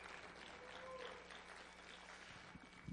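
An audience at a morning church service claps for Jesus after a prayer, a dense, continuous wash of many hands with no gaps, holding an even loudness throughout before easing slightly at the end.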